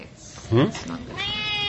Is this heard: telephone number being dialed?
no